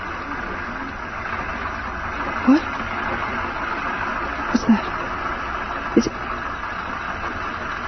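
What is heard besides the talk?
sewing machine running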